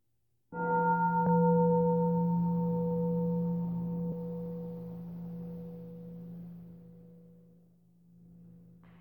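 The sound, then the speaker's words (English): A single deep meditation bell is struck once by the bellmaster to end a meditation, its low resonant tone with bright overtones ringing out steadily and slowly fading over several seconds, with no voices. “You notice how our bellmaster had the presence of mind to take a couple of breaths before inviting the bell, even though the bellmaster had kind of been cued”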